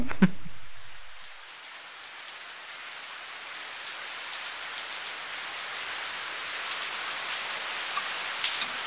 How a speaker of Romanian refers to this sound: E frig, plouă, e mohorât.